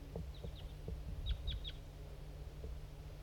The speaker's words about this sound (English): Okay, there's some crossbills around now.